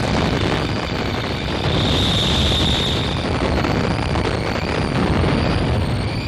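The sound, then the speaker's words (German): A loud explosion sound effect from a recording converted from mono to stereo for amateur filmmakers and theatre groups, rendered as a sustained, deep rumbling roar without a sharp initial bang, with a faint hissing whine above it and no voices. “Diese Aufnahmen sind ausschließlich für den Amateur bestimmt. Explosion.”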